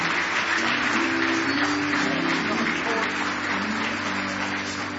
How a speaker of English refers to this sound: How many of you feel like doing something in the name of the Lord this morning? Give him another good hand clap of praise if you love him.